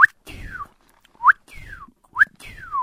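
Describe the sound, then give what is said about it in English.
A person whistles an imitation of a northern cardinal's song, three repeated phrases of a quick upslurred note followed by a long descending slurred whistle, clear with short gaps between. “I've heard the occasional cardinal, and I just scream at him, say, "You optimist!" but they're really singing now, and so they're out there going.”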